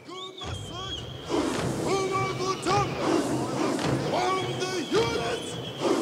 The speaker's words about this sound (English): It's called the toy toy. And it's kind of a rhythmic march, accompanied by singing, whistling, clapping, and chanting. The sound that you're hearing comes from the documentary Amandla, A Revolution in Four-Part Harmony.